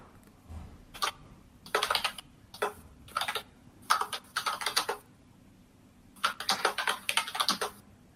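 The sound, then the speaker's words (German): Rapid, energetic typing on a computer keyboard, with bursts of sharp clacking keystrokes separated by short pauses, fairly loud with no voices. “Das Tippen wird energischer.”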